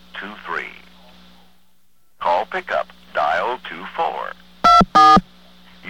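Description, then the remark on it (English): Two short touch-tone telephone keypad dialing beeps sound in quick succession, loud and clear, right after a stretch of recorded voice instructions with a low steady hum underneath. “If you wish to switch back and forth between conversations, just press the switch hook and dial the star and 9.”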